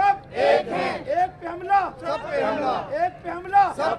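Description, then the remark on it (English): A crowd of Muslims and Christians, including children, chants together at a sunset candlelight vigil in Lahore, Pakistan, held for victims of a suicide bomb attack at a park. They chant that an attack on one is an attack on all, in loud, rhythmic bursts that rise and fall in repeated waves without pause. “we're hearing people at that vigil.”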